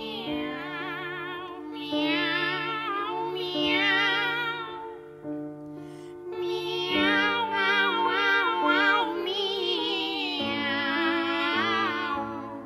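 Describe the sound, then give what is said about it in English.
Two operatic voices sing a duet by Rossini written for two cats, entirely in meows, trading and overlapping long vibrato-laden cat-like phrases over a steady piano accompaniment, loud throughout. “But eventually, Rossini did write a duet for 2 cats.”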